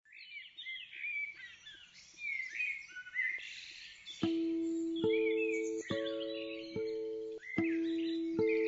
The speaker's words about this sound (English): I love this, the way it starts off with birdsong. Hearing birdsong under lockdown is always a little bit plangent, I think that's the word.